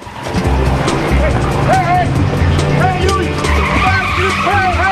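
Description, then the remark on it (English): A car speeds off with a roaring engine and screeching tires, loud, the squeals rising and falling over a steady low rumble for several seconds. “They run out to the car and speed off just as the night clerk runs out.”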